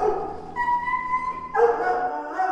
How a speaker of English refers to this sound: Dogs barking.